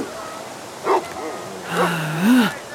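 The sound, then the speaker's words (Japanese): A dog gives a few short, yipping barks and a drawn-out whine, moderately loud, with quiet pauses in between. “バカ犬とわがまま女優との板挟みか。”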